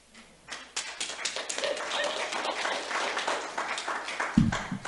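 An audience applauding, a dense steady patter of many hands clapping that starts after a brief quiet moment and carries on evenly.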